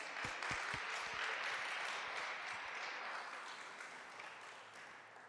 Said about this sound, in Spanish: Por eso, gloria a Dios, y quiero dar un aplauso.